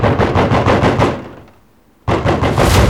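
Loud, rapid pounding on a door, a fast run of heavy booming knocks that stops for about a second, then resumes just as hard; the knocking has grown from light taps into loud bangs.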